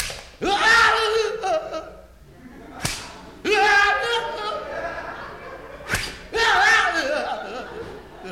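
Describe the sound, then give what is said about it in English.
Two sharp whip lashes crack against a man's oil-covered back as punishment, a few seconds apart, each followed by a loud, strained yell of pain; another drawn-out cry opens the sequence. “Whip away.”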